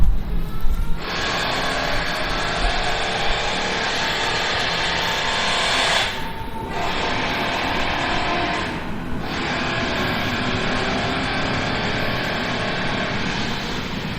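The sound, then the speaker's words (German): An S-Bahn commuter train near Betriebsbahnhof Rommelsburg rolls past with a loud, steady mechanical roar and high whine that starts after a second, briefly dips twice, then continues unbroken to the end. No one speaks. “Oh, da kommt eine S-Bahn.”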